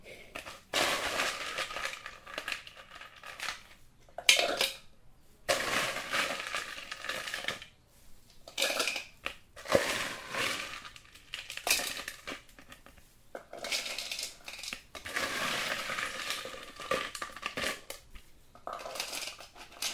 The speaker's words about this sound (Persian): و در حقیقت من لیموها رو ریختم، نعنا رو ریختم، یخ ها رو میریزم.